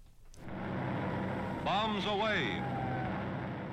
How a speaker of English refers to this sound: A newsreel brings the rumble of prop engines, the crack of anti-aircraft fire, and explosions from German flak cannons to life.